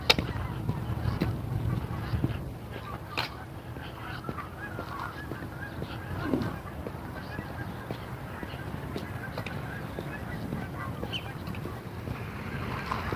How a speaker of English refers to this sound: I don't know if these geese are going to come close enough for you to hear them or not. There's like three or four skeins of geese that are trying to sort themselves out up here.